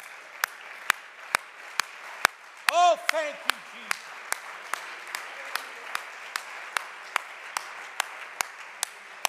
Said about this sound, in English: Can you give the Lord a hand clap of praise before you're seated?